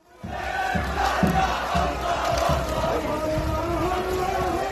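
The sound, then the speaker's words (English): A large crowd of protesters chants together in a street in northern Gaza, many voices blending into a loud, steady roar with rhythmic pulses, sustained for the whole clip; some chant "Hamas out" in protest against Hamas. “Some people are chanting Hamas out.”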